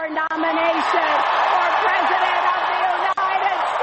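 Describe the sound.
Loud, sustained audience applause with cheering voices mixed in at the US Democratic Party convention as Clinton accepts the presidential nomination, a dense steady roar of clapping that stays even from start to finish.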